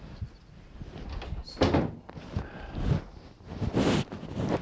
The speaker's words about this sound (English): I'll shut this door and then it's.